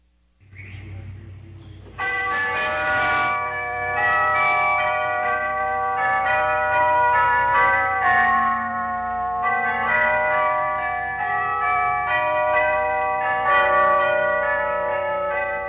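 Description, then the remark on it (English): The world's largest set of tubular bells, a carillon at the Stephen Foster Memorial in White Springs, Florida, rings out in a slow melody, with rich overlapping tones that sustain and blend. Loud, it starts after a brief quiet rustle. “You are listening to the world's largest set of tubular bells from the Stephen Foster Memorial in White Springs, Florida.”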